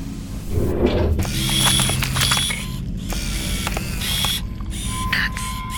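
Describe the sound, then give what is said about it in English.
A drawer holding tools slides open with a creak, followed by a steady stretch of clattering and rummaging as objects inside are shifted around, with scattered sharp clicks and scrapes. No one speaks. “Try that drawer, Minkowski.”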